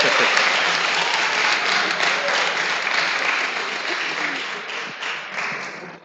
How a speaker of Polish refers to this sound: A to już oklaski, sympatia, widzisz, no.